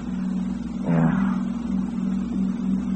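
car engine

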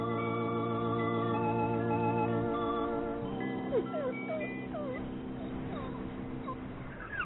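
sick dog whimpering

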